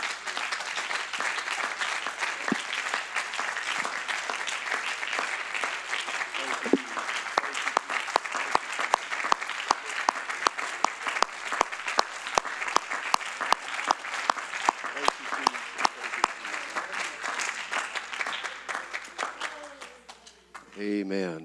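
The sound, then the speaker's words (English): An audience applauds together in praise at a Tuesday night church service, a dense, sustained wash of hand claps with some sharper individual claps standing out, fading near the end as voices begin. “Can we give him one more hand clap of praise tonight?”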